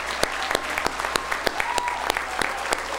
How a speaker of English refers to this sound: Please stay standing. We want to give a great round of applause. We appreciate your service.